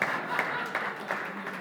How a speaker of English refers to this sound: Give them a hand. They both got it right. Did that clap feel good? That's all you get, so see ya.